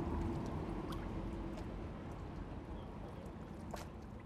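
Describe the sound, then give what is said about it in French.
Water sloshes and churns steadily under a low rumble, with a few sharper splashes breaking through as waves strike the parapet of a tower. “Je suis penchée au parapet où les vagues frappent.”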